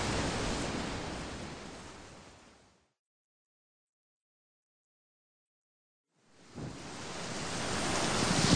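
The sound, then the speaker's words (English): Heavy ocean waves, about 6 metres high, and wind roar loudly in terrible weather, fade away into a few seconds of silence, then surge back and build again. No one speaks. “Look at those waves. They must be 6 metres high.”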